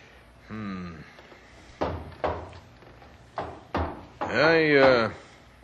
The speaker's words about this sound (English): I might be able to do something with this old thing. Drawers still work? And just barely. I'm afraid that filing cabinet has seen better days.